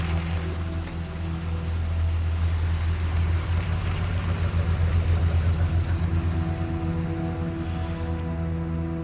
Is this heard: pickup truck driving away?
yes